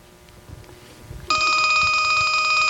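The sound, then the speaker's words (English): A telephone rings loudly for an incoming call through the phone patch of the Radio Free Nashville station, its bright electronic tone starting abruptly and holding steady after a low rumble of background noise, with no one talking. “The phone patch is working!”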